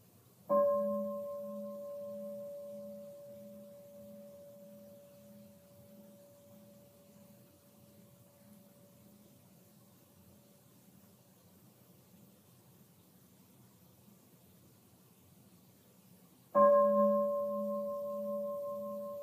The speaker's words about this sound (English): Notice the difference between the arising of the concept bell in the mind and the simple hearing of the sound.